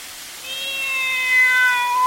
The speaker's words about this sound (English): What are you doing with that cat under your coat, Weary? Why, the cat keeps me warm. No, fellas, he carries the cat to do his breathing for him.